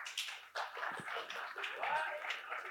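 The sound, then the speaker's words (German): An audience at a live show claps together in a short burst, the clapping blending into a steady swell of crowd voices, laughter and murmuring that continues throughout. “Einmal in die Hände klatschen, wer noch nie Alliteration am Arsch gehört hat.”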